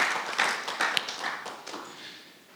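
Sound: audience applauding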